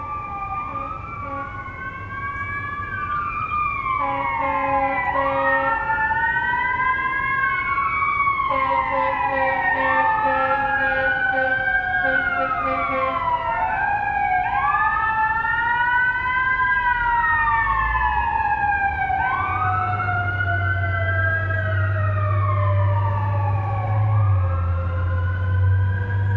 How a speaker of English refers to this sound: In a minute, I'll show you another recording of fire trucks, or at least one fire truck